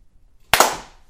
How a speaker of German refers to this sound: Wir haben das letzte Mal vergessen zu klatschen.